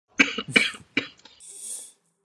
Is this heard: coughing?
yes